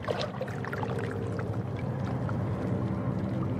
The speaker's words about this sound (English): I'm standing among some large rocks full of barnacles and seaweed. The water moves calmly through crevices.